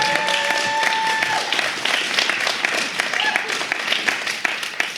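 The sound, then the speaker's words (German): A steady burst of audience applause for three panel discussants, many hands clapping densely and continuously for several seconds at a fairly loud level, with a faint tonal whistle-like line early on. “Mal einen kurzen Applaus für unsere drei Diskutanten.”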